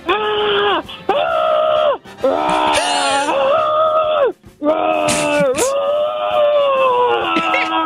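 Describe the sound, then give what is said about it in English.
A person loudly imitates excited bear growls, drawn-out wavering roars and howls in a near-continuous stream, broken only by a few quick gasps for breath, acting as a Chicago Bears player excited about winning the Super Bowl. “You're a Chicago Bears player who can only communicate in bear growls.”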